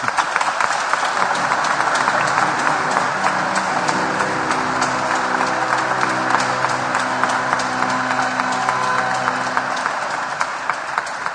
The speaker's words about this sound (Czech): Dnes je mezi námi a má de facto dneska takovou jáhenskou primici, takže ho prosím přivítejme potleskem.